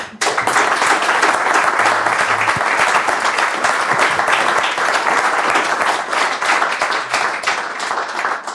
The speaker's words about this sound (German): Dafür möchte ich euch und ich denke, wir alle euch auch für den Vortrag nochmal ganz herzlich danken mit einer Runde Applaus.